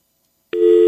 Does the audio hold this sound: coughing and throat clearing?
no